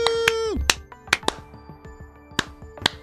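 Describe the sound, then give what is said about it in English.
A few slow, unenthusiastic hand claps, sharp and irregularly spaced, with a sustained tone that slides downward at the very start. “They're insincere clap.”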